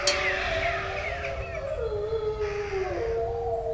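Several wolves howl together in long, overlapping wavering tones that slide slowly in pitch, a steady chorus lasting the whole stretch over a low background rumble.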